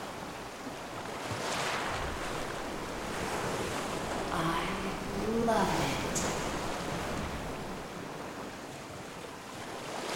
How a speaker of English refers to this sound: You'll always remember the healing, the extraordinary, the soothing waves of the ocean as she guides you on your own personal journey.